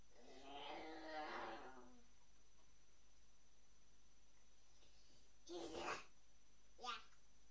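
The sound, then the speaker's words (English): A young child growls out a drawn-out imitation of an angry lion's roar, fairly loud, followed later by two short, breathy vocal bursts. “And what will the lion say when he's cross?”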